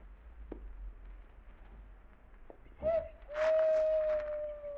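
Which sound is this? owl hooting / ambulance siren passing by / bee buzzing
owl hooting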